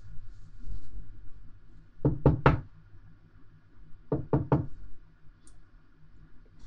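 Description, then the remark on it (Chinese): Two sets of three sharp knocks on the door of apartment 1306 in building 16, evenly paced and separated by a short pause, with a low steady hum in the background and no talking. “是我啊，表哥，开门。”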